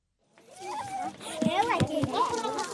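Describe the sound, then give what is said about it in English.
Children shout and chatter excitedly while spinning a play pump, a merry-go-round that draws water from an underground well, in the village of Boikarabelo, South Africa, with splashing water and a few sharp thumps mixed in, building to steady lively noise. “It's a play pump, a merry-go-round, like a playground toy. As kids spin it around, they draw gallons of pure water from an underground well”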